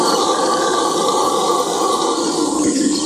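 A loud, continuous roaring howl of a howler monkey with drums added, dense and rumbling, holding steady from start to finish with no pauses and no voices.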